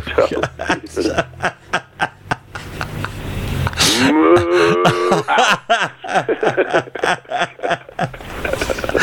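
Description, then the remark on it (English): A loud, drawn-out cow moo rises in the middle, full, while people chuckle and talk before and after it. “Cow attack.”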